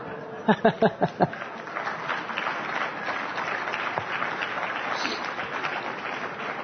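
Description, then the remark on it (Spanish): An audience breaks into applause, opening with a few loud, distinct claps before settling into steady, dense clapping that carries on evenly to the end, with faint crowd murmur underneath. “Le aplauden.”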